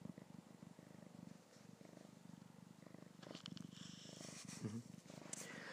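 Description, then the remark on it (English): A male cat purrs steadily, a continuous low rumbling throb with a fast, even rhythm, joined midway by some soft rustling. “Look at that. I'm forming a bond with the cat.”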